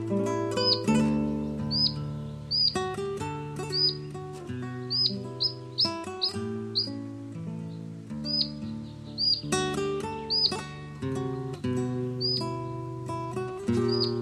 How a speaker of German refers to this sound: Das war der Halsbandschnäpper.